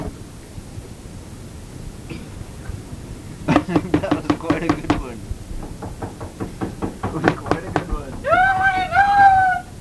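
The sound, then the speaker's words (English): Two loud bursts of rapid knocking on a door, the second longer and more insistent, followed by a high, drawn-out vocal cry at the end. “No, you go get the door!”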